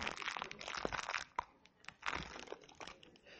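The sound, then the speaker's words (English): A plastic seed bag crinkles and rustles as it is wrestled and torn open, with a continuous stretch of crackling, crunchy handling noise and no talking. “And, of course, it calls for a pair of scissors to get it open.”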